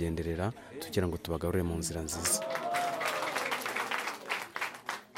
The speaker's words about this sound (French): La séance se termine sous les applaudissements.